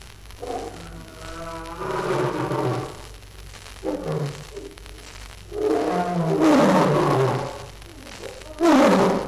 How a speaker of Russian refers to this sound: Как в пустыне в этот час по привычке даже в клетке громыхает грозный лев.